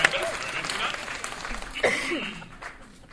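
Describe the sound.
A crowd applauds with dense, steady clapping that holds for a few seconds before gradually tapering off, with scattered voices calling out over the noise.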